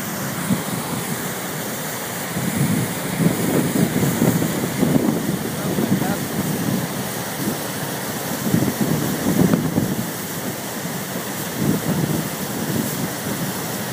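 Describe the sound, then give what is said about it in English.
A steady, hissing roar of falling water at the top of the American Falls, facing Canada, fills the whole clip, with gusts of wind carrying spray buffeting and rumbling underneath in uneven surges. No one speaks. “So we want to share the sound of the falls with you.”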